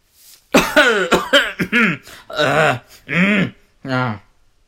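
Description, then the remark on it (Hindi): A voice imitates a series of harsh, raspy coughs, about half a dozen loud bursts in an uneven rhythm with throat-clearing rasps between them: an old man of 60 to 65 coughing while sweeping a courtyard with a broom around 6 in the morning. “सुबह के करीब 6 बजे खांसी की इस आवाज ने अक्षय और विनय को हड़बड़ाहट में उठा दिया”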